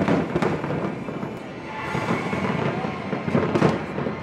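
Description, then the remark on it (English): Fireworks at Independence Day celebrations burst and crackle over a dense, continuous rumble, with several sharper bangs standing out among the steady popping of a large display. “On this side of the ocean, Independence Day celebrations rang from coast to coast.”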